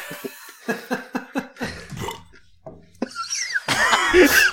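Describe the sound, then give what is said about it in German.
A rapid series of laugh bursts that turn into a throaty, belching sound, like a laugh and a burp blended together, ending in a louder, harsher rasp. “Das war eine der schönsten Mischungen aus Lacher und Rülpser, die ich jemals gehört habe.”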